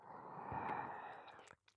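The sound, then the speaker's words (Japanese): Wet, slurping ear-licking noise runs steadily for about a second and a half, then breaks into a few soft, moist clicks and smacks. No talking. “こうして耳をなめたり、”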